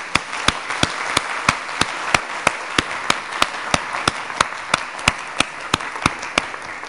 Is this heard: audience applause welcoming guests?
yes